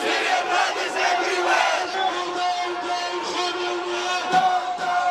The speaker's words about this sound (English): Thousands of protesters gathered in downtown London in solidarity with those trapped in Aleppo.